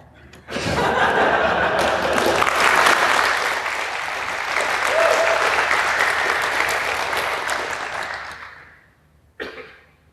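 An audience breaks into sustained applause for a speaker after a question session, swelling and holding for several seconds before fading out, followed by a brief isolated burst near the end, with a cough or chuckle scattered through it.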